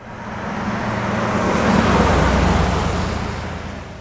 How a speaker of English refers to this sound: This bass layer is the car pass-by that I made to layer under all these and sort of give them consistency.